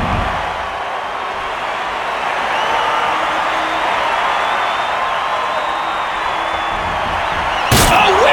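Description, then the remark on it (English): A large arena crowd at a SmackDown wrestling match roars and cheers steadily throughout, then, after Edge takes a chair, a single loud, sharp chair shot cracks out near the end, standing out above the sustained noise. “Now Edge has a chair.”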